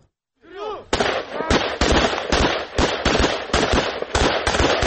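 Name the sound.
assault rifle gunfire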